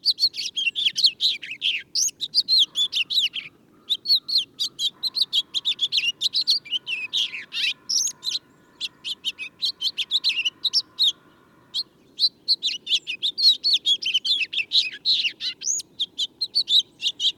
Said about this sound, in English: This has been WSHU's Bird Song Break, featuring the house finch this week.